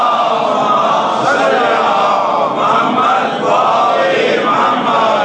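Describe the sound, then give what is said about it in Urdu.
A large crowd recites salawat, blessings upon Muhammad and the family of Muhammad, together in unison, a dense, loud wash of many voices reciting a rhythmic phrase, sustained for several seconds with slight swells in intensity. “صلوات پڑھ جیے محمد و آل محمد پر.”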